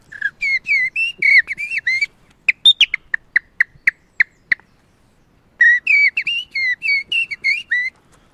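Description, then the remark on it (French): A person whistles an imitation of common blackbird song: two warbling phrases of fluting, sliding notes framing a run of sharp, evenly spaced chirps, clear with no talking. “Et là je lui fais le merle noir, qui est l'oiseau préféré de mon père, et certainement l'oiseau le plus virtuose qui existe en Europe, parce que c'est un oiseau très mélancolique, noir, sublime, qui se met...”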